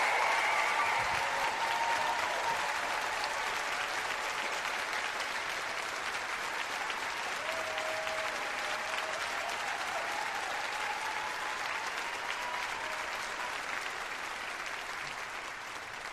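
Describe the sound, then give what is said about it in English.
Sustained audience applause for Barbara Lee at a live Pod Save America show in the Bay Area, a dense wash of clapping that holds steady and loud for about sixteen seconds, fading only slightly toward the end, with a few faint cheers mixed in early on. “Please give a warm Pod Save America applause to Barbara Lee.”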